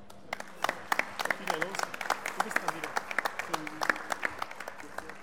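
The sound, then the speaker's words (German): An audience in a hall applauds to congratulate someone on her 18th birthday: many hands clapping in a steady, crackling patter of sharp, irregular claps at moderate loudness, with some murmured voices underneath. “Geburtstag, dass wir ihr diesen wunderschönen Blumenstrauß nochmal übergeben und vielleicht mit einem kleinen Applaus ihr alle hier in der Halle ganz, ganz herzlich noch zum Geburtstag gratulieren.”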